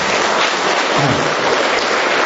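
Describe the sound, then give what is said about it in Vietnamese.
A crowd claps steadily, a dense, continuous patter of many hands at a loud, even level with no voices standing out, applauding to thank a non-Catholic man. “Chúng ta một tràng pháo tay thật to để cảm ơn anh ngoại đạo ạ.”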